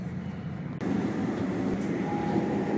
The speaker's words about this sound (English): Thank you very much for travelling with East Midlands Trains. We should be arriving into London St Pancras in approximately 20 minutes time.